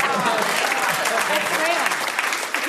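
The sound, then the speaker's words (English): An audience at a Radio 4 comedy show claps steadily for a few seconds, a dense, even wash of applause with faint voices mixed in underneath, holding its level before tapering slightly at the end. “That does deserve a round of applause.”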